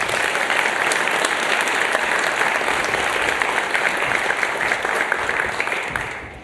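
An audience applauds a speaker being introduced before a talk, a steady, dense wash of many hands clapping at an even, loud level for several seconds before it fades out at the end.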